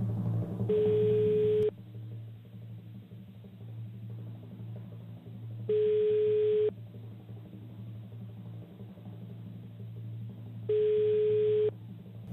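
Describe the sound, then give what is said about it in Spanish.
A telephone ringback tone heard through the line as a call is placed to a contest winner: three steady electronic beeps, each about a second long, spaced roughly five seconds apart over a low background hum. “Y vamos a marcar el teléfono.”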